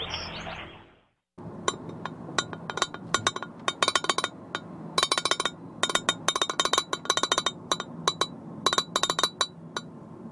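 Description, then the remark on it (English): A glass lid rattles on a rectangular yellow vintage Pyrex dish holding Brussels sprouts cooked in bacon grease with bacon and chestnuts, while exiting I-5 at 164th Street, in quick, irregular bursts of sharp clinks, fairly loud, after a brief soft rush at the start; no one speaks. “Well, that's the sound of Brussels sprouts cooked in bacon grease with bacon and chestnuts, held in a rectangular yellow vintage Pyrex dish with a glass lid.”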